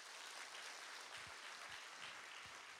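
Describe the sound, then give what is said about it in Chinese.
A church crowd claps steadily as applause giving glory to God, a dense wash of many hands with no voices, the applause sustained and fairly loud throughout, with a few low thumps underneath. “我们把掌声荣耀归给神。”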